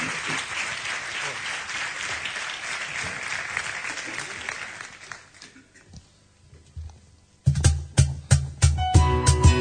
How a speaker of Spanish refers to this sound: Pido, por favor, un aplauso para ellos.